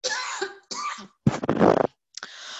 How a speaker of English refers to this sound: Excuse me, I got a cough again.